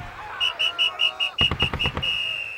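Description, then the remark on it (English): A major blows a whistle to rally the troops: a shrill, high whistle blows a quick string of short, evenly spaced blasts, then holds one long steady note. A rapid run of heavy thuds breaks in partway through. “As soon as those Germans heard that whistle, they threw down their guns and surrendered.”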